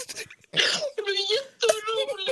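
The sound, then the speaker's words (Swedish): A woman crying: a breathy, sobbing gasp followed by several drawn-out, wavering whimpers in short bursts, moderately loud. “Nej. Hon gråter.”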